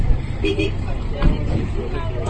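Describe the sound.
Vehicles rumble steadily up a dirt path to tan triage tents for earthquake victims, kicking up dust, a low continuous engine drone, with a murmur of indistinct voices in the background.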